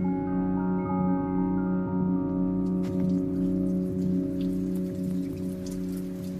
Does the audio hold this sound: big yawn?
no